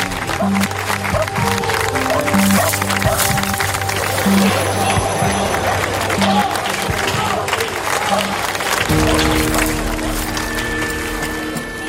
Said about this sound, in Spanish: Pero realmente la gente no entiende muy bien, porque en el momento que se comenzó a retirar los objetos, a la gente que se había congregado para verlo empezó a aplaudir y se iban a aplaudir.